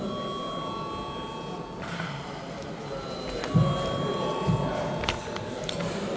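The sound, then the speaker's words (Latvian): A steady electric bell rings continuously in a parliament chamber, called for by the chair before a vote, a bright buzzing tone held for several seconds, with a few soft thumps and faint rustling in the background. “Lūdzu zvanu.”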